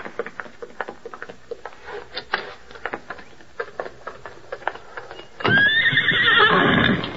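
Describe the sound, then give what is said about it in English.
Hooves clop in a quick, uneven rhythm for several seconds, then a horse lets out a loud, shrill whinny that rises and trails off; the horses are in a patio. “The horses are in the patio.”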